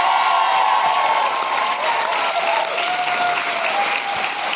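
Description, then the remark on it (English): Sustained audience applause for Susan Kalman, a dense, steady wash of many hands clapping at a constant loudness for several seconds, with no talking over it. “Ladies and gentlemen, give it up for the wonderful Susan Kalman!”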